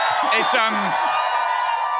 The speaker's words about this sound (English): it's worth pointing out, we're looking out on a sea of, I'd say, 5,000-6,000 people right now.